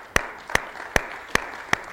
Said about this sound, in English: Go ahead and give God one more hand clap of praise. Amen. He's worthy.